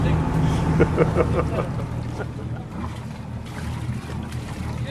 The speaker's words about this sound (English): The ferry is pulling into the small quay at Inchiguil. Whoa. As well as passengers, the boat brings two folding tables.